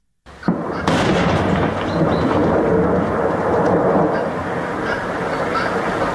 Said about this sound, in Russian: За последние несколько лет жители нескольких районов Крыма познакомились с этим звуком. Это взрыв в карьере.